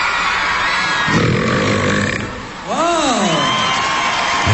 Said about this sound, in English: He won the burping contest at this weekend's Nickelodeon Kids Choice Awards. Yeah. Do you want to hear him taking on former champ Hugh Jackman?